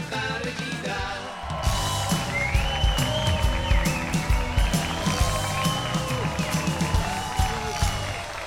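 A large audience bursts into loud, sustained applause after a brief quieter moment, with scattered cheers and yells rising through the dense clapping.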